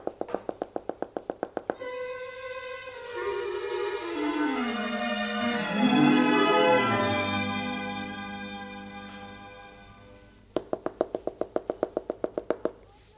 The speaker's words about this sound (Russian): Стучит.